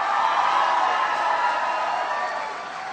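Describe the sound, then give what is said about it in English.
A large crowd applauds and cheers steadily for Lieutenant Governor John Garamendi, a dense wash of clapping with scattered shouts that holds strong before easing off slightly at the end. “Give the Lieutenant Governor a big round of applause.”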